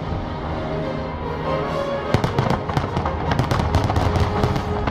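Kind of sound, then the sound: sound effect, fireworks exploding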